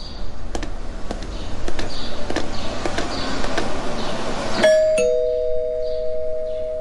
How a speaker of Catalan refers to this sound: En Ramon toca el timbre del número 21.